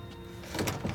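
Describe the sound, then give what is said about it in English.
A door is opened by Cora, a middle-aged black woman, with a short mechanical rattle and a couple of quick clacks in the latter half, moderately loud over a low steady hum, with no voices. “Cora, a middle-aged black woman, opens the door.”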